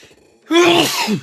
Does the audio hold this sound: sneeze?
yes